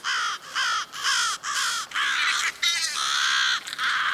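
Several crows caw loudly in a rapid series of harsh calls, overlapping near the end into a raucous chorus, with no talking.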